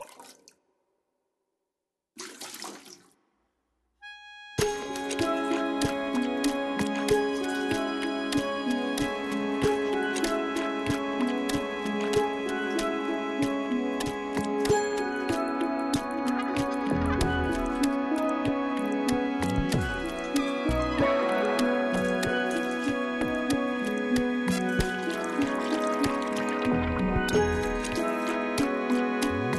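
Experimental electronic percussion music: a couple of brief splashy bursts, then a dense, continuous layer of ringing pitched tones and watery drips and squishes, steady and fairly loud throughout.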